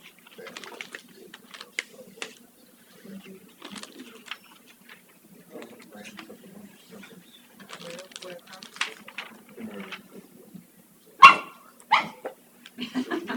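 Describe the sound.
A dog barks now and then beneath people talking, with one sharp, loud bark standing out near the end followed by a couple of softer ones.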